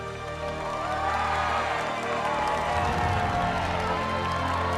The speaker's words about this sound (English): The princess looks out over the crowd. The queen and Violet join in the applause.